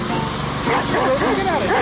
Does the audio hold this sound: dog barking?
yes